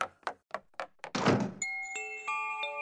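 A few quick thuds lead into a heavy door slamming shut behind someone leaving, in an apartment-building stairwell. A dense, loud bang echoes through the whole stairwell, followed by steady metallic ringing tones that hang on to the end.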